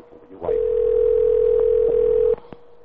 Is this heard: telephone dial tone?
yes